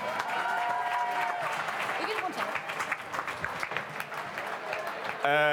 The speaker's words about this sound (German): Also, Applaus für Erik.